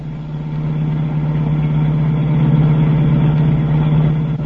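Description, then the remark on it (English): A car engine hums steadily throughout, a constant low drone with a mid-range rumble, heard from inside the car as it drives into a city at about 5 in the morning; no voices. “As the scene opens, we find the doctor in the car of the strangers.”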